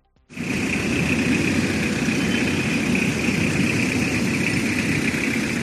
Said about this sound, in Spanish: Con estas colas de coches al ralentí, esta mañana se pasaba por Ventorrillo mucha gente